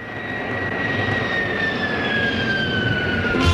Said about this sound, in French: Eh bien voilà, l'avion a décollé comme tous les dimanches à 9 heures.